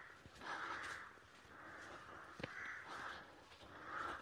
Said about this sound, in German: Ich glaube, man kann das hören. Ich laufe gerade durch so eine Rabenkolonie. Wird schon ruhiger.